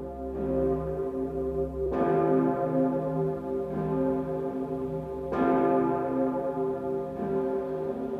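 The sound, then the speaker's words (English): The great bell of St. Stephen's, cast from cannons, tolls deep and loud, its rich harmonic hum sustaining between strikes; two clear strokes land a few seconds apart, each blooming and slowly fading. “Great bell of St. Stephen's, cast from cannons.”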